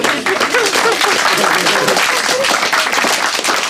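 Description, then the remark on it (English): Steady, loud sarcastic applause from a crowd fills the whole few seconds, a dense wash of many hands clapping at once, with some voices calling out underneath. “You, yes, sarcastic applause surrender.”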